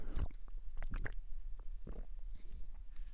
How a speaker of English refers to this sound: Wow, that was an extended sip, but it was really good. Man, I just love that stuff. Pineapple soda, yum.